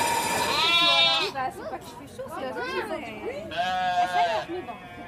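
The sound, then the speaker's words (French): Two loud, drawn-out sheep bleats at a world sheep shearing championship, one at the start and another near the end, with murmuring voices and crowd chatter filling the gap between them. “Pendant 4 jours, c'est le championnat mondial de tonte de mouton, donc Odora.”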